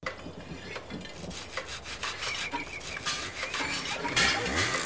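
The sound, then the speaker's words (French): Busy construction work on a building site as a legion sets to work: wood being sawed with a rasping back-and-forth stroke, mixed with repeated sharp knocks like hammer blows, steady, with no talking. “Le marteau, c'est pour les clous, pas pour les doigts.”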